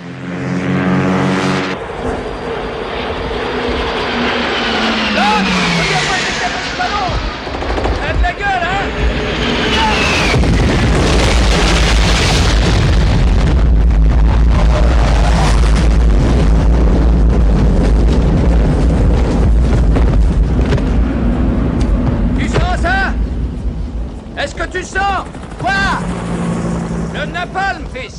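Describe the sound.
Jet engines roar and whine in falling sweeps over a constant heavy rumble as the jets arrive to drop their bombs, broken by sharp booming explosions in a loud, chaotic air strike, with indistinct voices buried in the din.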